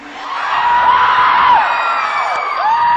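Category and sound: crowd, audience screaming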